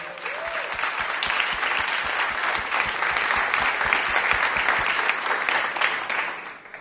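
Steady, dense applause from an audience fills the whole stretch, many hands clapping loudly and continuously before tapering off slightly at the very end.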